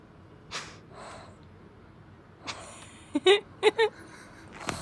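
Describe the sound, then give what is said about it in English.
Noodle, a pet, breathes heavily through its mouth: a few soft, airy huffs, then a quick cluster of three or four sharp, louder snorts near the end. “A lot of very calculated breathing. Noodle is a mouth breather.”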